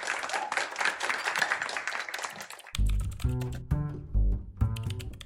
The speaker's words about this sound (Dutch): Graag vast jullie warme applaus voor de beide samen.